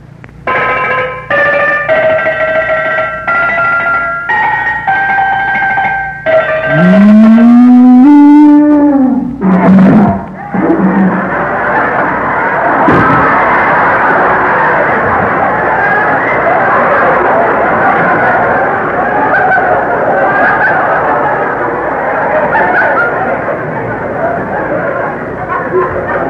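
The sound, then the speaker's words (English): A quick comic tune rings out on pitched cowbells, one bell still on a cow, which gives a long, bending low moo, followed by a steady, dense clattering racket that runs to the end. “I love to play my cowbells.”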